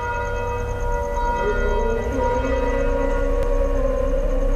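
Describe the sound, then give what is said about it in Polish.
In the Medina district of Dakar, Senegal, a wavering, drawn-out chanted call to prayer blends with the steady ringing of a nearby church's bells, their sustained tones overlapping continuously throughout, fairly loud with a constant low rumble underneath. “Wołanie na modlitwę miesza się z dźwiękiem dzwonów pobliskiego kościoła.”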